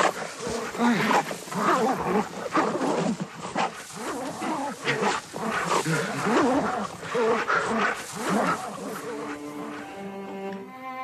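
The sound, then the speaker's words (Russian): Aggressive dogs, set on a man by soldiers, snarl and growl continuously as they maul him, harsh throaty bursts piling on top of each other with the man's pained cries mixed in, before a steady tonal hum takes over at the end. “Собаки привычно рвут Андрея.”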